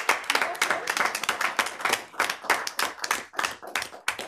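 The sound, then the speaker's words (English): Steady applause from many hands clapping at once in a council chamber, congratulating a team, a dense, continuous patter of sharp claps with no pauses, moderately loud and sustained for a few seconds. “we don't generally applause in this chamber, but sometimes there are occasions where it's appropriate, and I think this is one.”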